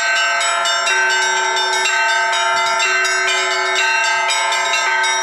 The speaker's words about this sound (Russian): В жилом комплексе «Суворовский» праздничный перезвон.